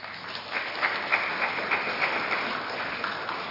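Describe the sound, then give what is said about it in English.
An audience at an evening with election candidates claps steadily, a dense, even wash of many hands with a few sharper claps standing out. The applause holds at a moderate level throughout, and no one speaks over it. “I hope the applause can be heard on the audio.”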